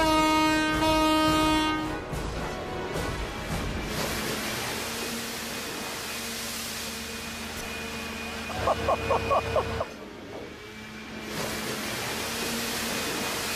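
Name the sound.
car horn honk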